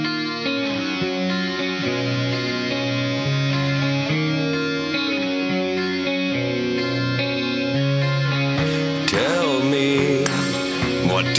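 A loud, dense rock track from a 2010 album, with heavily distorted, effects-laden guitars and steady sustained chords, building near the end into a brighter, wailing guitar line over pounding drums.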